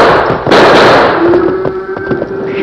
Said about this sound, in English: Those shots have stampeded the cattle.